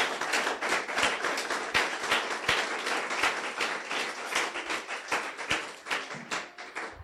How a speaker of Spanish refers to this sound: Un aplauso al Señor.